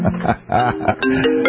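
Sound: phone ringing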